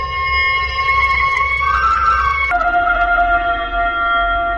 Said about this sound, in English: It was a howl in which pain, anger, menace, and the outraged majesty of nature all blended into one hideous shriek. Minute it lasted, 1,000 sirens in one, paralyzing the great multitude with its fierce insistence.